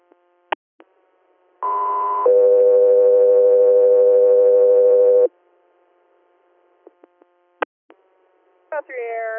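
Radio dispatch alert tones for Guthrie Air: a brief higher tone jumps to a longer, steady lower tone lasting a few seconds, loud and clear, framed by scattered radio clicks and squelch bursts.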